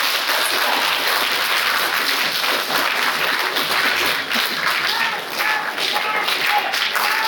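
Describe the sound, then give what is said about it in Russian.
Loud, sustained applause from a large audience at a forum as a medal is presented, dense rapid clapping filling the whole stretch without pause, energetic, with a few faint voices mixed into the crowd. “Давайте, давайте поддержим бурными аплодисментами”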